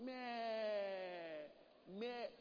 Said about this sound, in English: The sheep will bleat, calling for help.